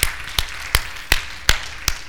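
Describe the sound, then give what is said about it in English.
Light, polite clapping at a church service: about six soft, evenly spaced claps at a slow, steady pace, with quiet gaps between them and no voices. “And that didn't sound like a Pentecostal clap.”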